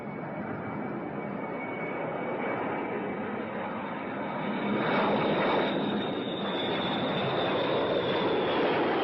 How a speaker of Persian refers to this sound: برج ادی، اینجا شکارچی 2، آماده برای تیک آف. دریافت شد شکارچی، میتونید تیک آف کنید.